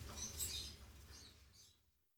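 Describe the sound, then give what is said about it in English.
A parrot gives a few shrill, scratchy squawks: one longer cry at the start, then two shorter calls fading out. The sound is faint and there is no talking. “A parrot. Oh, what a noise!”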